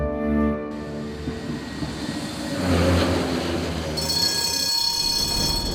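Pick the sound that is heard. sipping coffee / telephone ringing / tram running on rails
tram running on rails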